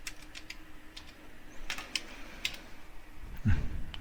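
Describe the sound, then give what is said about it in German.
Quick, light clicks of someone typing the root password on a computer keyboard running Linux Mint, a short irregular run of keystrokes ending with a slightly heavier tap, over a quiet background hum. “Nochmal das Root-Passwort eingeben.”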